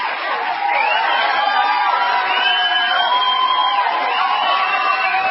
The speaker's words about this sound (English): Do we have some applause from the live audience?